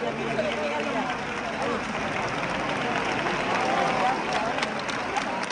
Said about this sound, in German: Die Menge jubelt, als die auf den Schultern getragene Jungfrau aus der Kirche gleitet und über den Köpfen der Wartenden zu schweben scheint.